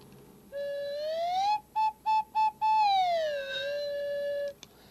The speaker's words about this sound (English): And a slide whistle.